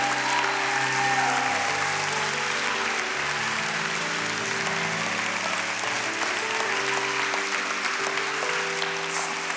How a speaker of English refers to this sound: Do you know, some of you might be wondering, why are people applauding? Why are people... Well, do you know, the Bible says that whenever we reach out to Jesus, heaven rejoices.